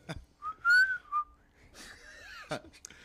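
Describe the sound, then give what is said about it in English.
A person whistles a short rising-and-falling tune followed by a brief second note, clear, with some rustling and clattering noise afterward and no talking. “We'll fill you in later about the whole whistling thing”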